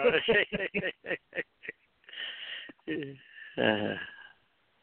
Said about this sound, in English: So let me clear my throat here for a second.